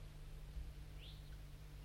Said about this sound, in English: So recording, 5-3's lured in some wild birds, flying from the bottom of the hollow, through the fog.